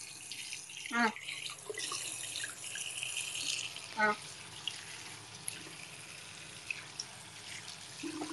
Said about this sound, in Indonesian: Ayo yang punya saudara, yang punya saudara rumahnya tuh keran air wastafelnya suaranya kayak gitu nih.